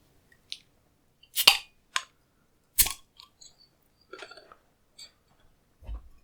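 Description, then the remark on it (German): A 0.33-litre beer bottle with a big yellow Ü on a purple-pink-black label is opened with two sharp, hissing bursts, followed by a scattering of short clinks and soft gurgling bits as it's poured into a glass. No one speaks. “Und ich werde das jetzt öffnen und mal einschenken.”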